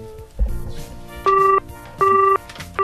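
Two loud, steady electronic telephone tones beep in evenly spaced bursts, each lasting about a third of a second, following a soft thump and faint background noise, as a telephone call is dialed.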